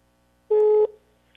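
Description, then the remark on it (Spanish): A single short telephone line tone as a call is being dialed, a steady electronic beep lasting about a third of a second, loud, followed by near silence with no voices. “A ver, estamos marcando.”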